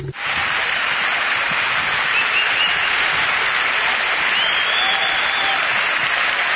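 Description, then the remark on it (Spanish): Sustained audience applause welcoming Sir Tim Berners-Lee, a dense, steady wash of clapping that holds at an even, loud level for several seconds without pause, with no speech over it. “Un aplauso, por favor, para dar la bienvenida a la persona que ha cambiado el mundo.”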